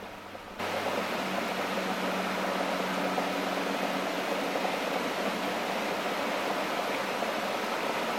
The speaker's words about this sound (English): You're mainly hearing rain and traffic. Oh, there's thunder.